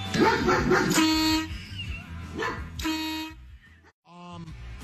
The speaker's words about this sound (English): It's just a guy who's PO'd at his neighbor because the dog won't quit barking.